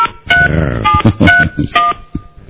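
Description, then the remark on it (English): A quick run of electronic telephone dialing tones as a cell phone is called, several short beeps in an uneven rhythm, fairly loud, with muffled voice-like sounds mixed in over a narrow phone-line quality. “I'll call you on your cell phone right now”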